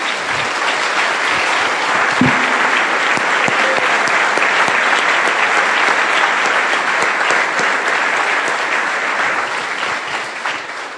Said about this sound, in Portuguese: Ah, nós podemos aplaudir o Espírito Santo de novo por causa disso.